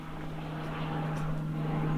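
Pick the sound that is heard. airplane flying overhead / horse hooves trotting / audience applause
airplane flying overhead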